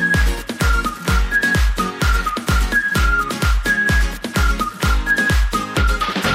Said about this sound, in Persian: برو با من سوت بزن، یه سوت بزن